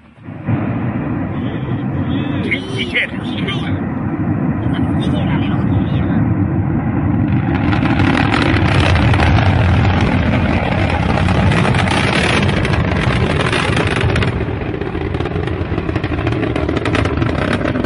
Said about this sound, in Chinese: 据悉，这次点火原本是不涉及上天的，只是火箭发动机静态点火，由于不明原因直接飞了。火箭随后坠落爆炸，引起周围市民的恐慌。